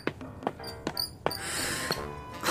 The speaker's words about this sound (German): Außerdem muss ich deine Räder mal wieder ölen. Du quietschst ja schon ganz fürchterlich. Siehst du, wie die Nachbarn schon gucken?